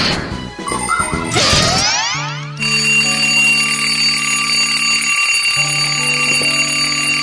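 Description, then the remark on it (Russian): An alarm clock rings loudly and continuously, a steady electronic tone with buzzing harmonics, following a brief clattering jumble of sliding tones at the start. No one speaks. “Тим Тимыч, что это у тебя будильник звонит посреди ночи, а?”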